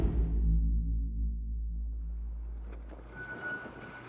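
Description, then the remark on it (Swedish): The engines of the ship Ocean Viking roar in a deep, steady low rumble with a droning hum as it glides out of the harbour to sea, running for the first time in three weeks, joined near the end by rushing noise and a brief thin whine. No one speaks. “Motorerna dånar för första gången på 3 veckor.”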